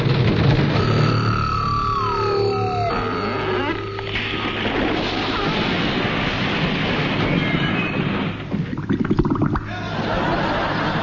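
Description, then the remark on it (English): A ship crashes onto a reef of jagged rocks: a steady roar of loud grinding and scraping, with drawn-out creaking groans sliding downward in pitch, then a burst of crunching, splintering impacts near the end. “In the confusion that followed, nobody noticed that the ship was heading straight for a reef of jagged rocks.”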